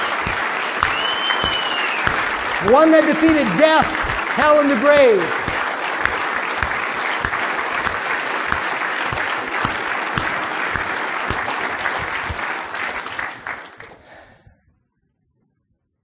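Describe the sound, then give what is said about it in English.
A crowd applauds steadily and loudly for about fourteen seconds in honour of the Savior, with cheering and a whistle rising over the clapping and a man speaking through it, asking for whistles, before the noise cuts off. “Come on, I need some whistles. A little louder.”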